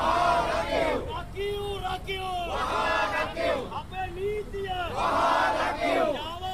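A morning protest crowd of lawyers and civil society members outside the Supreme Court complex in Sri Lanka, demanding Chief Justice Mohan Peiris resign, chants in loud, rhythmic unison, many voices rising and falling together in repeated phrases about every second and a half, with steady crowd noise underneath.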